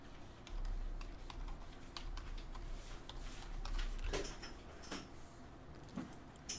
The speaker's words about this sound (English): What am I typing on?